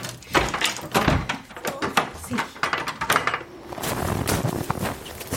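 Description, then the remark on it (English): A door opens and shuts amid a run of clattering, knocking noises, with muffled voices and bustling movement underneath. “Let her get out the door.”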